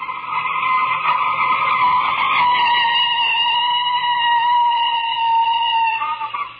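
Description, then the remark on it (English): A car's tires screech in a long, loud skid lasting several seconds as it stops at the corner of 2nd Street, the high squeal holding steady before tapering off as the vehicle comes to a stop. No one speaks. “Stop the car. Okay, I'll stop it here at the corner of 2nd Street.”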